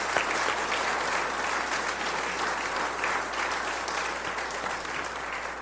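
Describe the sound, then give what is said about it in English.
An audience at a Holy Trinity church service claps steadily for the staff team, a dense, sustained wash of applause at a consistent level for several seconds without any talking. “So let's give everybody a round of applause.”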